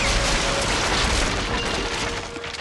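A car smashes through the front door of a house in a loud, continuous rush of crunching, rumbling noise that holds steady for a few seconds before easing slightly at the end. No voices.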